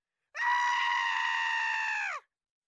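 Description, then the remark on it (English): A single loud, high-pitched scream rises sharply, holds steady for nearly two seconds, then cuts off with a slight downward dip. It stands alone with no talking around it. “The sounds that I don't like are screaming and high-pitched laughing.”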